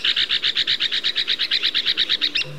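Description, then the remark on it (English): An Arizona woodpecker calls, a fast, even run of about twenty harsh, buzzy notes delivered clear, with nothing else around it. “It's an unusual use for a small bird's wings, but it helps Arizona woodpeckers garner the attention their newly carved homes deserve.”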